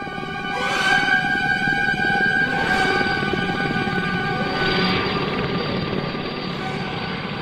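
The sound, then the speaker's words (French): Loud, continuous drone of combat helicopters flying, from a scene in Francis Ford Coppola's film Apocalypse Now: a heavy rotor rumble with periodic whooshing surges and a steady high whine layered over it. “Un film que l'on résume parfois à une scène mémorable où des hélicoptères sèment le chaos sur du Wagner.”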